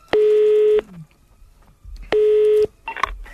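telephone dialing tones

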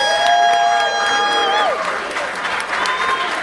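audience applause and cheering

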